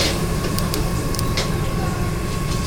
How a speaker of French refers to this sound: Là, alors, je commence avec le cumin. Je sais pas si t'es capable de capter le bruit du cumin.